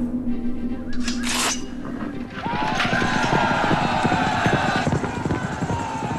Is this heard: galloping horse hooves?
yes